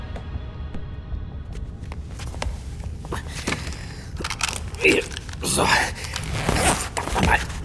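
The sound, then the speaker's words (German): A stuck spacesuit zipper being tugged closed to get ready for a spacewalk: scratchy rasps and clicks mixed with fabric rustling, coming in uneven bursts that grow louder toward the end. “Reißverschluss meines Weltraumanzugs klemmt.”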